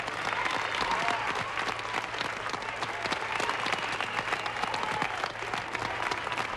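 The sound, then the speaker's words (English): Sustained, dense applause and cheering in a mission control room at the moment of the lunar module Eagle's touchdown on the moon, steady and loud throughout, with scattered cheers and voices mixed into the clapping. “There's a cheer in this room.”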